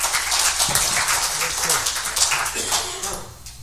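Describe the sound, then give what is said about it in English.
An audience applauds couples celebrating wedding anniversaries, steadily for a few seconds, a dense crackle of many hands clapping at once, with some murmured voices underneath as the clapping gradually thins toward the end. “Let's give them a hand this morning.”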